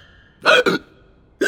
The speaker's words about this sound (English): Soon everyone is hiccuping.